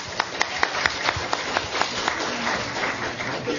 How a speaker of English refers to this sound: And I'd like to give another round of applause to Sergeant Major Custer.